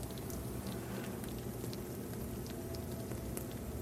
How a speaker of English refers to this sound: There's the tart bubbling outside of the oven. It has this nice, wonderful fragrance of peaches and almonds and buttery goodness.